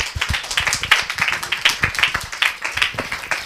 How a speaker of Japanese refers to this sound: じゃあ拍手でお迎えください。